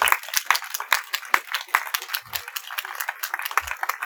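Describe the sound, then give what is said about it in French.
A church audience applauds to honor those who prepare and give its teaching messages, many hands clapping at once in a dense, crackling wash that holds at an even, fairly loud level for the whole stretch, with no voices over it. “Et vous voudrez vous honorer, on peut les applaudir.”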